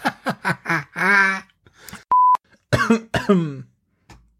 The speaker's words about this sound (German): Ah, Corona-Husten.